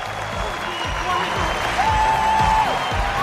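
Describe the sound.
An audience at a stage show applauds a magic act with dense, continuous clapping, a sustained whistle rising above it partway through, and faint voices mixed into the noise.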